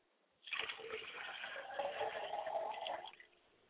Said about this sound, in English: We must pay homage to the tribute to our mothers and fathers and ancestors. I'd like to pay homage to my father's spirit by pouring the libation, and I say Ashe.